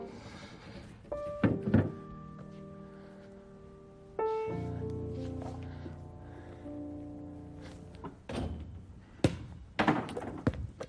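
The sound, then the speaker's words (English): A basketball thuds against a hard surface a few times as someone shoots baskets, with louder impacts near the start and middle that ring out with a metallic hum, then scattered lighter bounces and thumps. “You know, I think maybe I'll get this chair and try shooting baskets sitting on a chair.”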